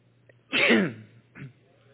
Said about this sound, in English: I had to sneeze. I'm up here in front of all you. But I had to sneeze.